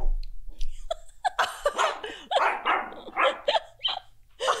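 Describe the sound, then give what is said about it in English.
A grumpy female dog barks repeatedly in quick, irregular bursts, loud, with sharp yappy barks mixed with a few whiny grumbles and no talking. “She's grumpy. She just has a lot to say. Like she makes her opinions known.”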